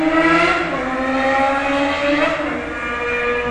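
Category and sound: vehicle, car driving past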